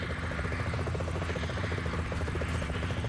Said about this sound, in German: Der Helikopter wird von einem Störfeld geschützt.